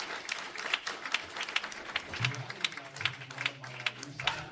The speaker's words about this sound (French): Je veux que l'on vous leviez et que nous vous applaudissions pour vous remercier pour tout le travail que vous avez effectué.